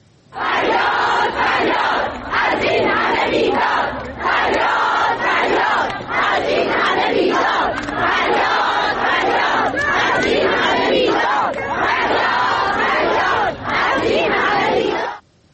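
A large crowd of protesting teachers in front of the education department office in Isfahan, Iran, chants loudly in unison, voices rising and falling in steady rhythmic bursts with brief pauses between repeated phrases, filling the whole recording without letup.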